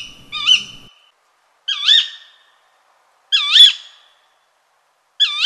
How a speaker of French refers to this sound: Dès le premier alexandrin, La Fontaine nomme le hibou le chat huant. Car quand le hibou chuinte, yoc, ol, hu, lamente, frou ou ulule, il sort parfois des sons qui peuvent faire penser à des miaulements.